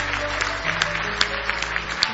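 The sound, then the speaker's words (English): An audience at an evening church service claps together in praise of the Lord, steady overlapping applause, the many hands blending into a dense wash with a few sharper claps standing out, moderately loud. “Give the Lord one more hand clap of praise tonight if you love him.”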